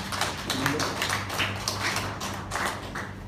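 An audience at a meeting applauds, a steady, dense patter of many hands clapping at an even loudness for the whole few seconds, with a faint low hum underneath and no one speaking.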